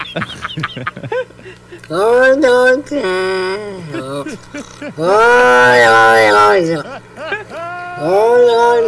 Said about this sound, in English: And then, oh, the cat with a super deep meow. Whoa. Whoa. This is Jack. Whoa. Stop it. Whoa. His voice is a little deeper than most cats.